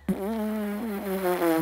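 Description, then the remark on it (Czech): A voice imitates a bee with a steady, high, buzzing lip trill made by vibrating the tips of tightly pressed lips, a high-tone exercise for trumpet or didgeridoo. The trill is held for over a second, is fairly loud, and wavers slightly in pitch, with no talking. “Když ten tón je vysoký, tomu říkám včelička. Takhle chcete prskat se sepnutými rty, není to ta vibrace, je to včelička a snažíte se vytvořit stálý tón.”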